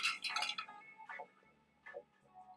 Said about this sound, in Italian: L'importante è dare un colpettino secco con la mano nella parte dove il vetro è più vicino all'acciaio.